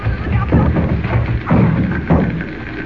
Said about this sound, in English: Jimmy, look out! The door's coming in!